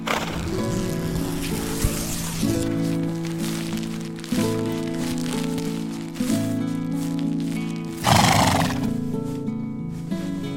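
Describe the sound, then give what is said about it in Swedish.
A mare whinnies and neighs repeatedly, loud, over a soft musical backdrop, with a few clip-clopping hoofbeats mixed in; after grazing alone under the stars, she wants to come in to the others. “Hästen har gått alldeles för sig själv och betat under stjärnorna. Nu vill hon komma in till de andra.”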